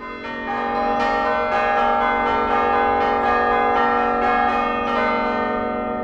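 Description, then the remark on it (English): Altgeld bell tower chimes ring out a bright, interlocking melody of traditional Balinese gamelan music from Indonesia, played as a duet by pushing down on levers at the tower's base, with quick overlapping bell strikes that sustain and blend into a continuous shimmering wash, loud and steady with no voices. “Broussard and former chimes master Tina Horton played it as a duet on the Altgeld chimes, an example, he says, of an interlocking melody.”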